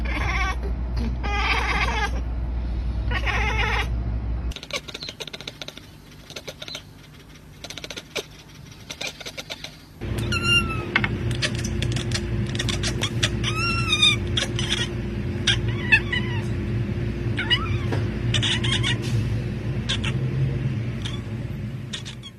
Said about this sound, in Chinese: 母猫会用这种声音要求幼猫守规矩。如果家中不止一只猫咪，也可能会听到猫咪彼此用这种方式沟通。猫咪最后也可能会借着这种叫声要你喂它吃饭，或者是催促你上床。